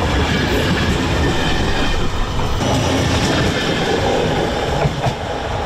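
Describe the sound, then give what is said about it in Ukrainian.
Steady, loud rumble of a passenger train carrying about 900 people from Prague and Bohumín toward Przemyśl, Poland, rolling along the rails, with continuous low wheel noise, faint clattering and a slight metallic hiss, with no voices. “Потяг прямує до Пшемишля польського, і там відбудеться пересадка вночі на потяг Інтерсіті Укрзалізниці, який доправить наших громадян до Львова і Києва.”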